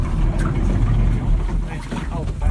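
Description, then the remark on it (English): A boat motors steadily along a river, its engine a constant low rumble mixed with rushing water and wind, with faint voices briefly audible beneath the drone. “It takes a boat ride on the river to get to the neighbouring shacks when the dirt roads are muddy.”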